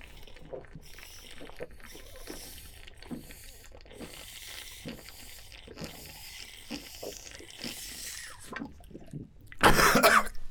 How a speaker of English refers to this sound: He coughed.